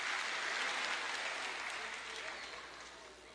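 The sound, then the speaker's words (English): An audience claps steadily, a dense wash of many hands that holds fairly loud, then tapers off slightly toward the end, with no voices heard. “I need a bigger clap than that.”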